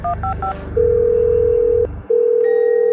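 A quick burst of three short keypad beeps, then a long steady phone ringing tone that pauses briefly and resumes, sounding slightly tinny through a phone speaker as a call is placed on speakerphone.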